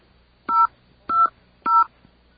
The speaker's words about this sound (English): It's the BAI phone system striking again. Let's try it one more time. There is a problem with our touch tones.